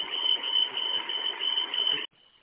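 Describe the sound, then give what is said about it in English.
A steady, high-pitched warning alarm from a bus dashboard, sounding with the check engine light and a high exhaust temperature warning, drones continuously over the rumble of the idling bus engine, then both cut off abruptly after about two seconds, leaving a faint hum. “That's what it's alarming. Yeah, I can hear it.”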